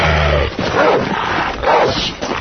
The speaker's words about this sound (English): Hey, man, you got a rabid dog back here. Go. Go. Go. Out. You gotta do something about this dog.